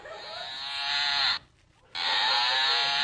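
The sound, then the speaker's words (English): A toy sheep lets out two drawn-out, cow-like moos, loud, with a short pause between them. The tone is buzzy and slightly electronic, and no one talks over it. “Now, all I could find was a sheep, but it sounds like a bull.”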